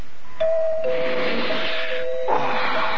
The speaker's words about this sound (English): It's the doorbell, huh? Oh, I guess I wasn't dreaming. That's the doorbell, all right. Boy. Well, I wonder who that could be.